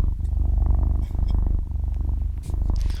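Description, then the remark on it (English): A cat purrs steadily, a low continuous rumble pulsing in a rapid rhythm, with a couple of brief breathy breaks along the way. “Do you mind if we put on … instead?”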